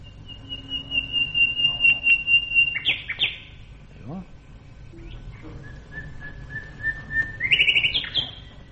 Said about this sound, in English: Let's hear a nightingale doing his crescendo.